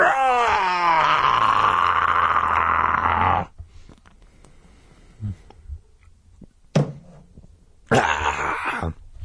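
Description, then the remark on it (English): A loud, rasping monstrous roar, uttered by a bus driver who has turned into a monster, surges for about three and a half seconds and cuts off. A few faint grunts follow, then a brief snarl and a second harsh roar burst at the end. “As we gogged in silent horror, the driver tilted back his monstrous head and uttered an animal roar.”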